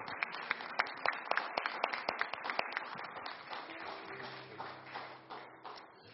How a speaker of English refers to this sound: Let's give our guests a hand clap. Would you do that?